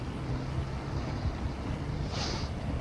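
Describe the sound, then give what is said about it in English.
An orange motor launch's engine drones steadily as it runs along the shore up to a quayside, a low, throbbing rumble mixed with wind and water noise, holding at a constant level with no voices. “I've just seen that the orange launch at the side of the Nannel has left the boat.”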